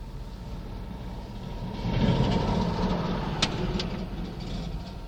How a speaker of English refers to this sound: I heard a log truck coming.